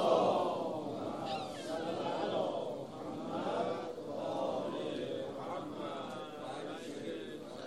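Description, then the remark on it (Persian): A large gathering recites the salawat together on the sixth night of Muharram, many voices blending into a loud, rhythmic unison murmur that rises and falls in waves throughout. “یه صلوات بفرستیم.”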